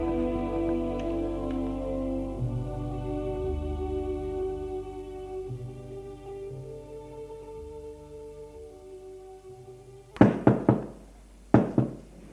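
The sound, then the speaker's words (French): Soft sustained music fades out, then a mother knocks on her husband's office door: a quick burst of three or four firm knocks, a brief pause, and two more knocks, with no talking. “La mère, une fois avoir couché sa fille, va frapper au bureau de son mari.”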